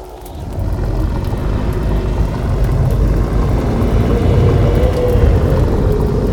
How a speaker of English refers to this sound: Then there was a low growl, followed by an unnerving roar.